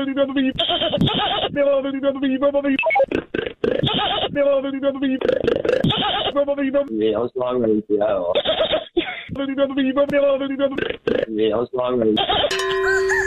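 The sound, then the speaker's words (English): A person makes a string of odd vocal noises: wavering, bleating sounds imitating a goat, broken up by sharp popping clicks made with the tongue, with brief gaps between bursts. “I can make this weird popping noise with my tongue. I can do a really good goat imitation.”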